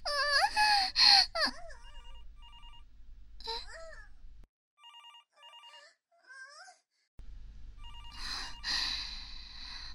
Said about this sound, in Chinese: 到底是谁啊，在这个时候打电话过来？